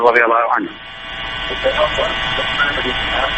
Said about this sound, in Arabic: أغلق صوت التلفاز عندك لأن يشوش علينا.